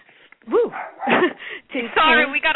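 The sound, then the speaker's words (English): A small dog named Beju barks at the neighborhood dogs several times in quick, high-pitched yaps, clear, with no one talking over it. “We got a little Beju baby barking at the neighborhood dogs, even though everything's been moved out there.”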